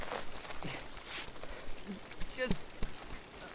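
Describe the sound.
Steady rain hisses throughout, a dense, even patter, with a few sharper splashes and a brief bright clink midway. Faint voices can be heard beneath the downpour.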